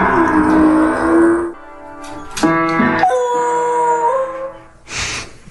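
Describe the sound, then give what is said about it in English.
Buddy Mercury, a Beagle Basset Hound mix, howls in long, wavering, rising and falling tones, loud, while standing on his hind legs at a piano and tapping a few notes on the keys with his front paws, then gives a short final howl. “Stands on his hind legs next to a piano, taps the keys with his two front paws, and tilts his head back and”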